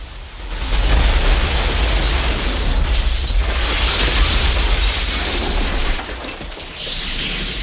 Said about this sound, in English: Cyrax walks slowly towards the operating theater. He stops outside it and shatters the glass walls. Jax and Sonia dive for cover as shards of glass fall all around them.